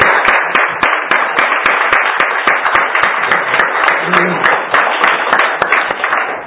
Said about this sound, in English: And so let's just pray for the Lord again. Let's give him a hand clap for that.